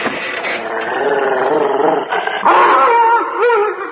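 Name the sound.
dog howling in protest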